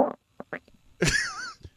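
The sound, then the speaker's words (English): A stomach growling: a few short gurgly blips, then a longer, louder warbling groan that wavers in pitch before fading, with no talking. “Because, you know, you're sitting there and you're sitting on the sofa with your wife and her stomach is doing this.”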